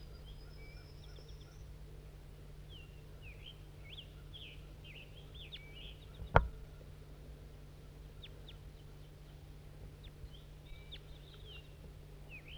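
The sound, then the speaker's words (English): Calls of a wild female crossbill: short, high, sharp chirps repeated irregularly over a steady low hum, with a single loud click near the middle. “We're recording Crossbill.”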